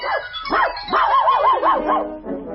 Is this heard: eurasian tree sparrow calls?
no